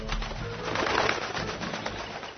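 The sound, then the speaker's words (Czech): A pigeon coos in low, soft, throaty murmurs that roll on steadily for a couple of seconds over a faint rustling background, with no voices. “Već mu je pretila smrt od davljenja, kad bi dolete jedan golub i stade na obalu da se napije vode.”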